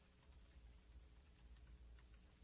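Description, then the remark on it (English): Faint, irregular keyboard clicks as someone types a Google search on a computer, quiet, over a low steady background hum with no talking. “I'm just typing. I want to Google something.”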